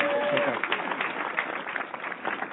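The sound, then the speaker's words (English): A studio audience claps and cheers steadily as a guest is welcomed onto the show, producing a dense, loud wash of noise that holds for the whole stretch, with voices whooping and a brief high whistle at the start. “This could be the first time that the in-studio crowd out-louded the actual sound cue.”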